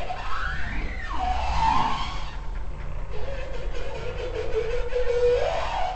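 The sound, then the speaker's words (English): Bowhead whale song: loud, wavering tonal calls that sweep up and down in pitch, sliding through several long moaning notes over a constant low rumble, with no talking. “They tend to be a little less structured than humpback whale songs, but when a bowhead starts to sing, you can tell they're putting their whole heart and body into it, and they are shouting.”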